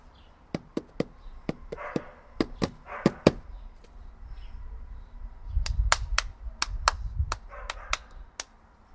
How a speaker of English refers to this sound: Right, you do one, I'll give you a rhythm. You clap it and I'll drum it.